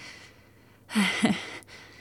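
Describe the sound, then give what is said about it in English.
A single heavy, breathy exhalation rises sharply and fades after about half a second, with a faint background hiss around it and no talking. “I'm sorry I'm breathing so hard.”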